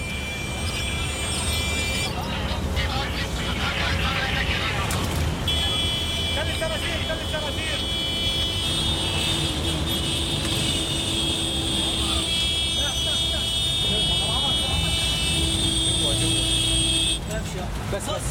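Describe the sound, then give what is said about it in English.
A truck carrying White Helmets rescuers drives fast toward a bombing scene: a steady, loud engine roar with road and wind noise runs throughout, rising and shifting slightly, with some indistinct voices underneath. “They drive fast towards the scene.”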